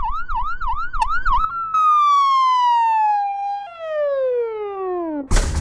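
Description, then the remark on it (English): A loud ambulance siren with a fast warbling yelp, then a single long wail that slowly falls in pitch as it winds down, ending in a short burst of noise. No talking. “Quickly, call a fake ambulance.”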